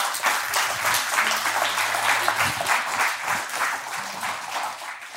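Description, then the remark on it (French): A crowd at a church gathering in Drummondville applauds steadily for about five seconds, a dense, even wash of many hands clapping at a fairly loud, constant level, with a faint murmur of voices underneath. “Si on veut faire ça, pas applaudir.”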